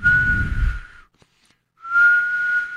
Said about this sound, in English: That's a whistling sound. That's because cold air is coming back into your house, and all the warm air is leaving. The cold air is infiltrating your residence, and it's costing you money on your heating bill.